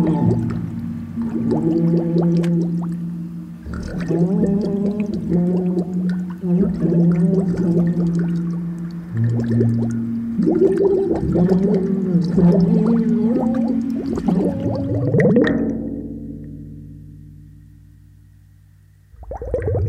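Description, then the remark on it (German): In an experiment, a muffled, bubbling voice sings and speaks underwater, its gliding tones warbling and gurgling steadily for about fifteen seconds before fading into a low hollow rumble. “Experiment Nummer 2. Singen und sprechen unter Wasser.”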